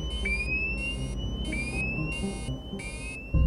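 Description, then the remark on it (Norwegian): An aircraft cockpit fire alarm sounds for a fire in the left engine, the plane's only working engine, in steady, repeating electronic bursts, each with a rising pitch sweep, over a constant low engine rumble, ending with a sudden louder thump. “Så går brannalarmen.”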